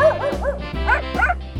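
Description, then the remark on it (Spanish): A small female dog named Mixi barks several times in quick, high-pitched yips, loud, with a faint whiny edge between barks. “El nombre de mi perrita es Mixi.”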